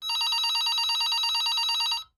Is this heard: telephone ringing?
yes